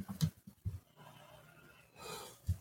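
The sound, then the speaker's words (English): A breathy yawn: a few short sniffs and a drawn inhale, then a long airy exhale that swells and fades, with no talking. “I keep yawning, so I apologize.”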